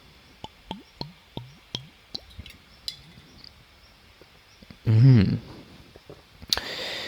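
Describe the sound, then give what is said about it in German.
Someone drinks water from a glass, a quick run of about six soft gulping swallows, followed by a louder bump as the glass is handled and a breathy exhale. “Jetzt muss ich natürlich das irgendwie in das Gespräch mit einbauen, dass ich hier einen Schluck trinken will, weil sonst wird die nächste halbe Stunde, die ich hier versuche zu sprechen, natürlich doof.”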